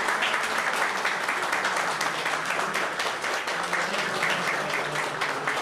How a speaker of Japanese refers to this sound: 日本製鉄鹿島硬式野球部市長表敬訪問にいらっしゃいました。職員の皆さんが廊下に並び拍手でお出迎えです。